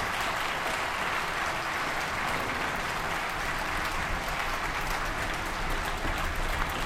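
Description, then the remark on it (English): Sustained applause from an audience at a La Jolla Symphony and Chorus concert, a dense, steady wash of many hands clapping at once with no pauses, loud and even throughout without voices rising above it. “Keep clapping.”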